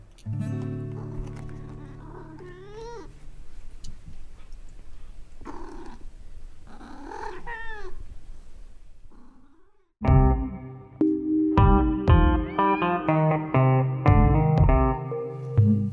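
A cat gives several drawn-out, wavering meows over a low, steady rumble like purring, then a louder burst of sustained tonal yowling fills the last seconds. No one speaks.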